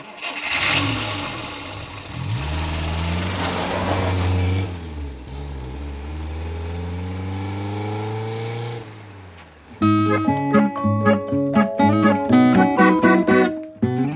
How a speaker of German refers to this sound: Familie Murmelbach fährt ein altes Feuerwehrauto, wirklich. Es wackelt beim Fahren ganz schön und Luca nennt das Auto unsere Klapperkiste.